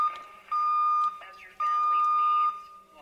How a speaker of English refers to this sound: There's that deviation alarm again. See, there's somebody else there.